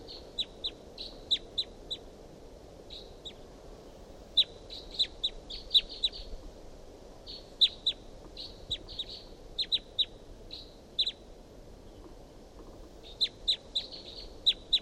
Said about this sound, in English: It's up in the top of this tall pine above the truck, pointed up at the wild bird. Wild bird calls, responds by decoys. Chitter by the wild bird. Recording calls of the wild bird.